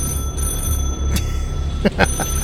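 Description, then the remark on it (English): A telephone rings faintly and steadily from beyond double doors off a hallway, its tone held under a murky ambience with a few brief knocks and shuffles. “tell the boys to shush, or at least Eve, who's trying to talk to me while I'm listening to this phone”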